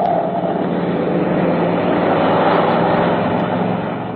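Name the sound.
car driving past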